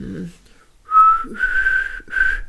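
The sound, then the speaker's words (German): A person attempts to whistle, producing a few breathy, wavering tones in short bursts, with airy noise around the weak pitch. “das war jetzt so mehr Pfeifen aus dem letzten Loch.”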